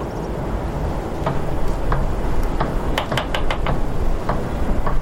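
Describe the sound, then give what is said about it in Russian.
Irregular sharp knocks, a few isolated then a quick cluster of several, tapping over a steady low rumbling hum of a running machine with no voices. “Что-то стукает. Машинка.”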